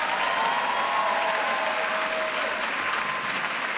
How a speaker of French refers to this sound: et ses musiciens, applaudissez-les.